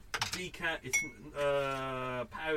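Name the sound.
spoon clinking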